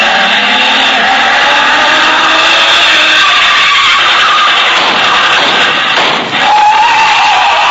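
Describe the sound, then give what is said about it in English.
A car roars along at speed, its engine whining loud, then tires screech in a sharp skid near the end, with a brief thump as it settles. “Speeding toward the same destination is another car.”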